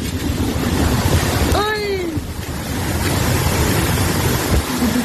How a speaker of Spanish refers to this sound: En realidad es una manga marina.